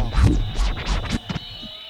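A DJ record rewind scratch: a quick run of five or six rasping, swooshing strokes that sweep up and down in pitch, loud at first and trailing off into a faint steady hum.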